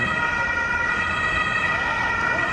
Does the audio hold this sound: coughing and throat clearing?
no